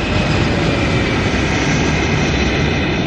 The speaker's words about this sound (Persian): این هواپیما که استفاده میکنیم یه فالکون 50 که ما از شیشه کاملا شیشه مقابلمون استفاده میکنیم.